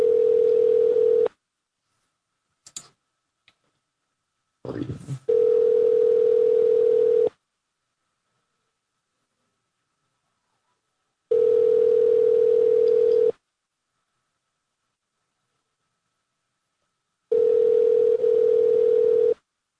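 A phone call being placed: a steady low tone, a few short clicks and beeps of dialing, then a ringback tone pulsing in long bursts with silent gaps between rings. No one speaks.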